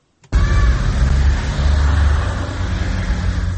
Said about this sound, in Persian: ماشین های خدمتی منصبداران سطح بالای حکومت تاجیکستان است که صبح بر وقت از قرارگاه خود از محله یکم سویتسکی شهر دوشنبه خارج می شوند. ماشین های خدمتی منصبداران تاجیکستان خیلی گران ارزشند.